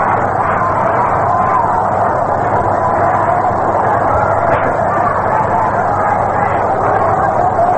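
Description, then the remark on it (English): A baseball crowd sends up a steady, loud roar of mingled voices for about eight seconds, reacting after a 3-0 pitch to Rusty Staub is called a strike, holding a constant level with a brief sharper burst midway through. “Let's get the crowd reaction.”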